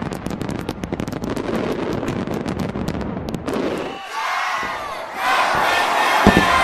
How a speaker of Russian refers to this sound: Наверное, один из самых ярких фейерверков состоялся в Лондоне